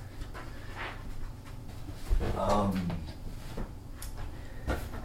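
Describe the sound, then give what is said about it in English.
Soft rustling as fabric-like protective packing material, found underneath a piece of paper while unboxing a device, is handled, with intermittent scrapes and crinkles over about five seconds and a brief murmur of voice in the middle. “It's some kind of like protection material.”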